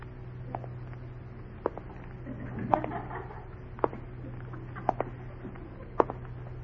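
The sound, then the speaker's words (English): Slow, evenly spaced footsteps of a man walking toward the listeners through dark shadows, about six sharp taps roughly a second apart, growing a little louder toward the end over a steady low hum. “Oh, I can hear his footsteps.”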